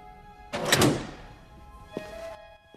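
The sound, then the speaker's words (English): A metal cell door flap at the station slides open with a scraping clatter, then a sharp metallic clunk and a brief ringing tone as it settles, no voices. “At the station, Frost opens a cell door flap.”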